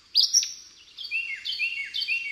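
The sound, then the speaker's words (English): A recorded bird, preserved for a bird survey, sings alone: a couple of sharp opening chirps, then three quick, repeated high warbling phrases, clear, with no voices. “dozens of bird sounds are preserved with Ward's audio for the next bird survey 100 years from now”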